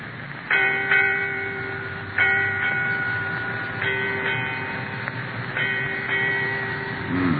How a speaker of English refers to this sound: Eight bells, Captain. Aye. Eight bells, mate.